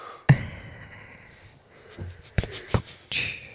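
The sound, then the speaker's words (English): A breathy yawn starts with a sharp intake and stretches out for about a second, followed by a few soft knocks and shuffling noises. Nobody speaks. “I didn't yawn at your joke. I yawn because I'm fucking exhausted.”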